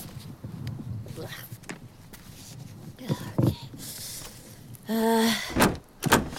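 A door handle rattles and clunks a few times as someone tries a locked door, with brief muffled sounds of effort and movement.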